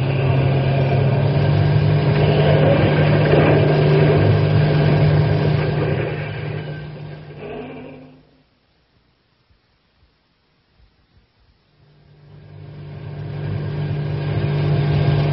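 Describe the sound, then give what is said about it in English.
A truck engine, driven as fast as it will go, runs loud with a steady, throaty drone, fades out to near silence midway, then swells back up again. No one speaks. “Step on the gas. We'll get out of the park and then we can think about to the next.”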